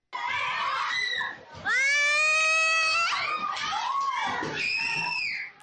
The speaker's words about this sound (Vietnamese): Có thể thấy nữ sinh bị đánh hội đồng la hét và kêu khóc, nhưng các bạn khác vẫn không buông tha.